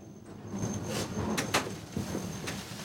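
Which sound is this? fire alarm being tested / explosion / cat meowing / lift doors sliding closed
lift doors sliding closed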